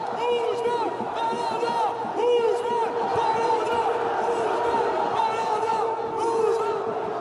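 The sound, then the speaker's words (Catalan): A large, dense crowd celebrating in the streets of Paris at the champions' parade for PSG's first Champions League win, with many voices shouting, chanting and cheering over one another in a loud, continuous roar that never lets up. “És el so de les celebracions ahir pels carrers de París”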